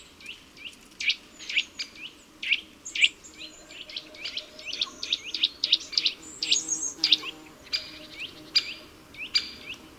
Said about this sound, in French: Comme ce grimpeur bleu qui descend par le tronc, la bouche vers le bas avec une pose très acrobatique. Ses fortes griffes lui permettent de se retenir à l'écorce pour réaliser ses étranges mouvements tout en émettant un gazouillement très insistant.